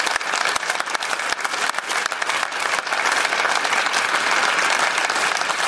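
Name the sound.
applause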